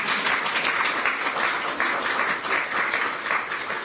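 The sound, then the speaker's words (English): A crowd applauds steadily at the oath of office ceremony for Seema Verma as the 15th administrator of the Centers for Medicare and Medicaid Services, many hands clapping in a dense, even wash of sound that stays loud and sustained throughout, with no voices standing out. “You can applaud that if you want.”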